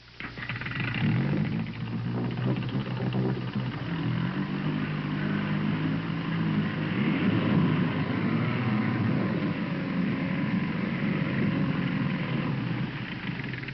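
A propeller with a Timex watch attached to its blade spins underwater at 4,500 revolutions per minute in a test tank set up in a studio, a steady, loud mechanical whir with a droning low hum and churning hiss that holds constant throughout, without any talking.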